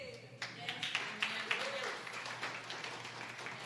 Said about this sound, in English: Let's give her a clap again.